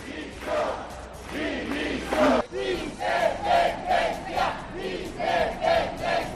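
protest crowd shouting slogans

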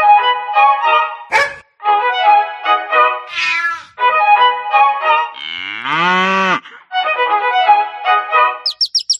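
cat meowing

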